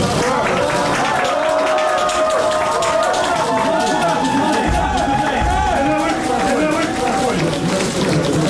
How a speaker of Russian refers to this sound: Зал взорвался овациями.